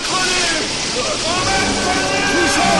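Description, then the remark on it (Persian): Heavy, continuous splashing and spraying water, a loud, steady rushing wash as the whale Moby Dick throws water with its tail toward the people of a sinking ship, with faint shouting voices buried underneath. “موبیدیک با دومش آب به طرف ما میپاشه.”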